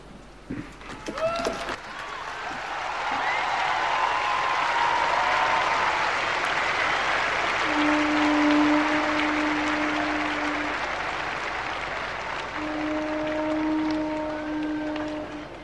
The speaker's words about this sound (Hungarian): Újabb tapsviharral köszönték meg, mondhatjuk az irgalmasság szentévének utolsó audienciáját, hiszen vasárnap bezárul ez a rendkívüli szentév.